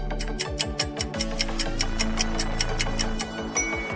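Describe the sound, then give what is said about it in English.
A countdown timer ticks steadily and quickly, about four ticks per second, timing a guessing game, layered over a tense musical bed with pulsing bass; no one speaks. “Guess the Zim childhood game. Try to beat the clock.”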